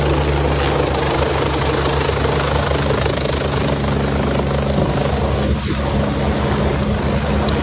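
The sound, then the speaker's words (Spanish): A firefighting helicopter hovers loudly while scooping up water with its bucket to carry to a fire and drop it, its rotor thumping and engine roaring steadily throughout, with a broad rushing wash over the top and no voices. “Así suena como recoge el agua este helicóptero para poder acudir al incendio y dejarla caer.”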